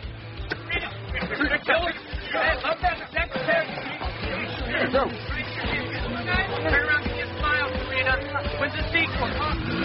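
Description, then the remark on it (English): A small Vespa scooter engine buzzes and revs steadily as it moves off carrying two riders, amid a lively background of crowd chatter and street noise, the motor staying fairly prominent throughout. “Even I have to admit, they sure look cute on that scooter.”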